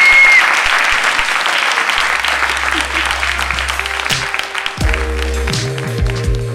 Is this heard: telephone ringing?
no